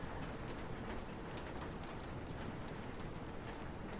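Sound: rain falling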